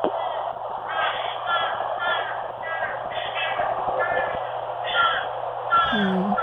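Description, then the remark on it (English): A series of harsh, nasal crow caws repeats in quick bursts, a dozen or so, over a steady low hum in a thin, muffled recording that sounds played back over a phone line. “It sounds like a crow for sure. Sounds like a fish crow. It could be also an American crow.”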